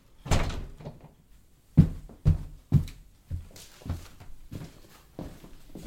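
door being closed

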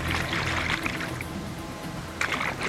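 rushing river water

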